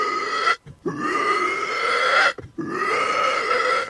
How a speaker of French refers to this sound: On a un petit cochon, là, tu vois, là. Il est sympa et tout, mais tout le temps en train de... Il est méchant.